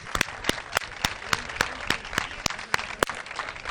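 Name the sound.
audience applause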